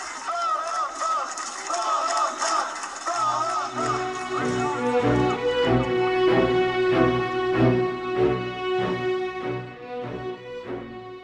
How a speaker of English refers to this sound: The protesting Romanians are shouting applause for the journalists who uncovered this story, along with the last name of a famous journalist, Catalin Tolentan.